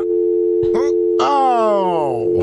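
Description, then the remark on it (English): A steady, unbroken telephone tone hums continuously after a call cuts off, loud, while a voice speaks briefly over it partway through. “Hello? Ashley? Oh, phone's not working.”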